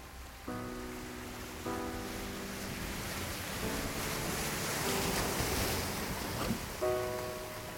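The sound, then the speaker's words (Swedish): Rough, stormy winter sea waves and gusting wind make a steady, loud roar on a boat trip out to the island of Gotska Sandön, while the boat's engine adds a droning tonal hum that comes and goes. No one speaks. “har stigit på båten ut till ön, mitt i det vinterstormiga havet.”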